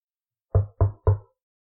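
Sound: knock on a door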